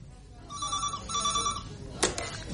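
A telephone ringing tone on an outgoing call from a borrowed mobile phone: one double ring pulse, fairly clear and steady, followed by a sharp click as the line is picked up.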